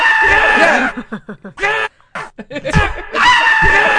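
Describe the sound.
A single voice mimics Trump and Biden screaming over each other during the open discussion of a debate: loud, shrill shrieks broken into choppy bursts with brief gaps, lasting about four seconds.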